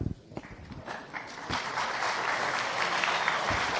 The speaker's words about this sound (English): Wow, you haven't even done anything and you get applause. That's really awesome.